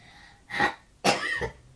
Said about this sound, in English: you got a bit of a cough? A little bit.